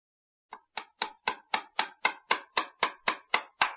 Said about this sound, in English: First, find a hammer and some nails. Then, put the chair on the floor. Now, hammer the nails in the chair.